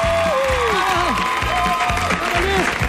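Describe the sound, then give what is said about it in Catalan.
Audience applause for Peyu, including second-year ESO students of the Escola Concepcionistes de Barcelona, fills the whole stretch, a dense, steady wash of clapping mixed with crowd cheering and sliding vocal whoops, over a low, pulsing rhythm underneath. “Un aplaudiment per a Peyu!”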